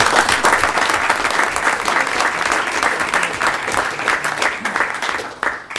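An audience claps steadily for several seconds, a dense, bright wash of many hands at a fairly loud, even level, tapering slightly at the end.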